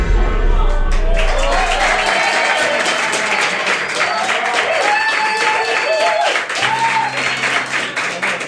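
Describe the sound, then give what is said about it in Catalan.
An audience bursts into sustained applause, a dense wash of clapping that stays loud and steady throughout, with some voices and murmurs mixed in underneath. “Que també aplaudir ara, d'acord, agraeixo l'aplaudiment, però portem 20 minuts parlant de la Vesna.”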